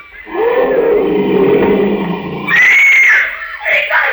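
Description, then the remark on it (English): A loud lion roar in a jungle, from about a quarter of a mile away, rumbles for a couple of seconds, then rises into a higher, strained shrieking cry before trailing off with a shorter final call. “They're just scared by the lion roar.”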